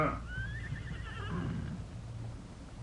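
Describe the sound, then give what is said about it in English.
A horse whinnies once, a wavering, descending neigh lasting about a second and a half, over a low steady rumble of background noise, as the Lone Ranger and Tonto water their horses at a narrow stream along a ridge. “The Lone Ranger and Tonto stopped to water their horses at the narrow stream that ran along the ridge where they had been riding.”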